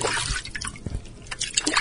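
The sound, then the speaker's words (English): Water sloshing and splashing in a few quick, uneven scoops, lifted from a river with both hands, with a deeper slosh partway through and no voices. “He was scooping up the fat and some water with both hands,”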